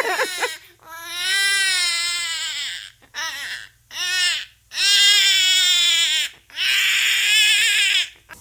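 Repeated wailing cries from human babies and young primates, loud and high-pitched with wavering, strained harmonics, coming in four long bursts separated by brief gasping pauses, with no talking.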